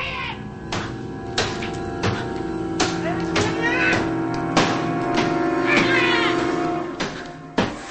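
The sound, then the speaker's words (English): A meat cleaver hacks into a wooden door again and again, chopping a hole in it, about ten sharp, heavy blows at an uneven pace, loud, over a sustained droning, whining tone underneath. “continues chopping a hole in the door.”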